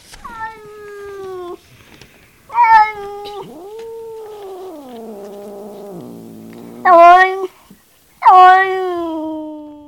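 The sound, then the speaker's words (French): A cat meows several times, long plaintive cries with a drawn-out, lower mournful yowl in the middle, loud and clear with no one speaking. “À peu de distance, ils trouvèrent un chat couché sur le chemin et faisant une figure triste comme une pluie de 3 jours.”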